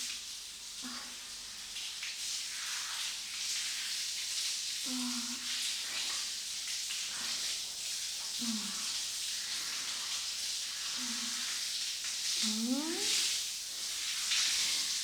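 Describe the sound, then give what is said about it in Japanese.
A shower sprays steadily while someone is rinsed off and foam is washed away, a continuous bright hiss of falling water with a few brief, soft low sounds underneath. “シャワー気持ちいい？汗臭さもなくなったかな。”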